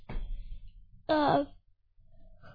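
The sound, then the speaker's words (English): A single loud, voiced yawn: a short, strained moan with a wavering pitch, set between softer breathy and rustling sounds. “Oh, yawns. Those are contagious, man.”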